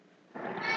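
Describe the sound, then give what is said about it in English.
A person imitates a sheep's bleat: a short, loud, nasal "baa" that starts abruptly after a brief quiet moment and holds steady with a slightly wavering, reedy tone. “What's the sound that sheeps make?”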